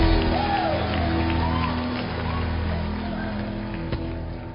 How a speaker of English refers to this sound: Let's give the Lord a clap offering and a shout.